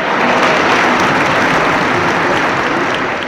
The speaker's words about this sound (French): Et on l'applaudit.